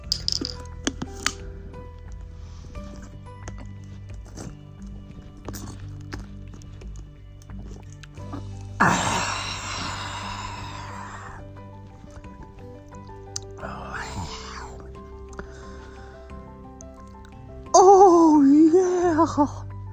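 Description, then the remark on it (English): Crinkly handling of a plastic water bottle in a few separate bursts against a low background hum, ending with slurping drinking sounds and a brief wavering moan-like vocal. “Here's a bottle of water. Have some bottle of water.”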